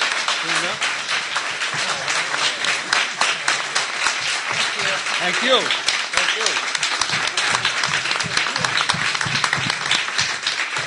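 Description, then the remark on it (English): Sustained audience applause thanking the guests for being there, a dense, steady wash of many hands clapping for about eleven seconds, with a voice briefly speaking over it partway through. “So first of all, let's give these guys a round of applause for being here.”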